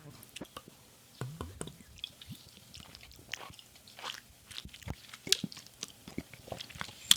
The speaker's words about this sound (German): So, ich trinke jetzt. Nicht so schlimm wie Fanta. Okay, dann Prost.